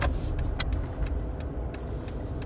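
Steady low road rumble from traffic, with brief clicks and ticks scattered over the top and no voices.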